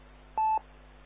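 A single short electronic telephone tone, a steady mid-pitched beep lasting a fraction of a second, sounds clearly over a faint low hum, with no one speaking.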